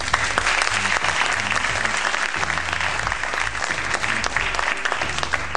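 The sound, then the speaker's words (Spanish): A large crowd gives sustained, loud applause, dense clapping filling the whole stretch with an even roar, with faint cheering mixed in. “Pero en esta emisión, y que se escuche por favor esa ovación.”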